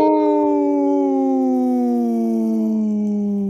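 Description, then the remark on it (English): Two people on Native Roots Radio imitate a wolf howl with their voices for Howling for Wolves: one long, loud, sustained wail that glides slowly downward in pitch for several seconds, with no words. “This portion of the show was brought to you by Howling for Wolves, protecting wolves for future generations. Howl!”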